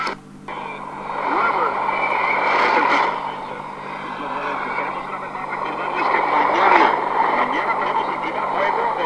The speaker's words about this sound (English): That's a Spanish station. Okay, that's enough, I think. It's not... There's a lot of static there. Yeah, big time. I was getting way better reception last night.